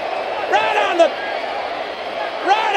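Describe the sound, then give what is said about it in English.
A couple of short slamming impacts as wrestler Jake Roberts DDTs Sting around a chair cut through a steady, roaring arena crowd, with rising whoops and cheers swelling around each hit. “The DDT around the chair.”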